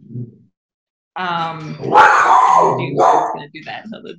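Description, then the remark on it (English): A female dog guarding the house barks and growls in a rough, loud burst of about two seconds after a brief pause, with a whiny, tonal edge at the start and short yips trailing off. “We've had dogs and babies and everyone make guests stars on the podcast before, so it's all good.”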